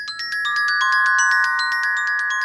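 A metal glockenspiel played in a quick, steady run of bright, high-pitched strikes, each note ringing on and overlapping the next in a shimmering sustained wash, with no voices.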